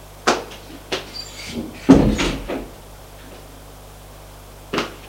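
A door off a long corridor is opened: a few sharp clicks of the handle and latch, then a louder creaking swing with a thud, followed by quiet and one last click.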